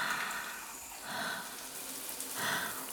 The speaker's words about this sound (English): Come into the shower. Let the warm water slide on your skin. Feel it. It feels so good on my back.